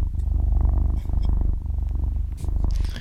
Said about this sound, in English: Sounds like do you mind if we put on Cats Purring instead?